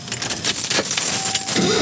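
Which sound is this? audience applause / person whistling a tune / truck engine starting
truck engine starting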